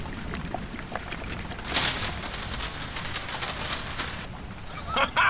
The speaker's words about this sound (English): It worked! I poured the wine into the circuits and managed to short it out to release the lock.